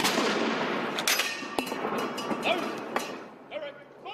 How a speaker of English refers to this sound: Military teams at the Tower of London, across the UK, and on ships at sea fired 41-gun salutes to mark the death of Prince Philip, who was a former naval officer.